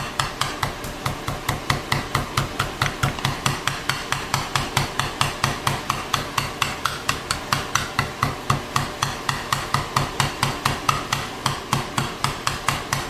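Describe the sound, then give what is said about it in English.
Rapid, steady thumps of a mallet pounding marinated meat strips thin, about four or five strikes per second in an even rhythm, fairly loud and continuing throughout with no talking. “I'm sure you're wondering, why doesn't she beat it first, make them really thin, and then marinate it?”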